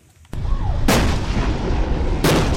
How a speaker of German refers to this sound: Im Morgengrauen feuern M60-Panzer auf Pengshu. Die Inselgruppe liegt mitten in der Taiwanstraße.